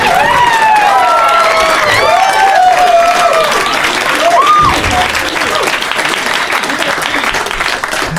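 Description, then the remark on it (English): A big crowd claps loudly and steadily, with whoops and cheers rising over the dense applause early on. The wall of clapping holds strong throughout. “It's finally a big crowd."”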